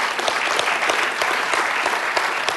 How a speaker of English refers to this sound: Give God a great clap offering if you enjoyed that. Amen.